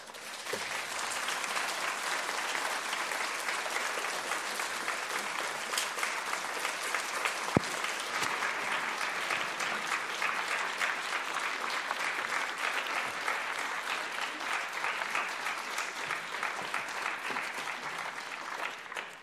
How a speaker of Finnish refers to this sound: Musta tuntuu, että tämä aplodien mitta kertoi sen tunnelman, jota tämä sun puhe meissä kaikissa herätti.